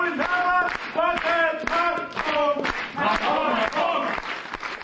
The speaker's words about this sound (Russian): Спектакль только окончился, но, наверное, получилось. Такие продолжительные аплодисменты зала.